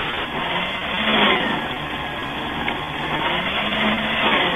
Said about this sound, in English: Want all 39 shred, right? Yes, all 39. Can you put the phone closer to the shredder, please? This is how close it gets.